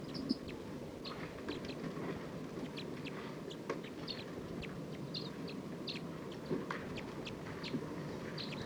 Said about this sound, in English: It's recording wild bird. This is a wild flock. Calling a lot more, looks like they're gonna take off. Stop. There are about 14 birds in this flock.